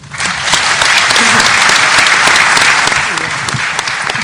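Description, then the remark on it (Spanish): An audience applauds at an event's opening ceremony, thanking those who spoke: a dense, loud wash of many hands clapping that holds for about four seconds before easing slightly at the end. “Muy bien, con ese aplauso agradecemos la presencia de quienes participaron e hicieron uso de la palabra en la ceremonia de apertura.”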